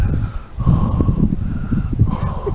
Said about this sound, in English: The heavy breathing, come on.